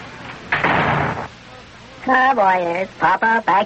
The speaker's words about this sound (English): Open the door there, Sparky lad. Here we go. Step right in after you, Big John.